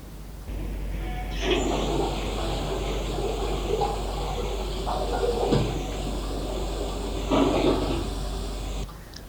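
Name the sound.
rain falling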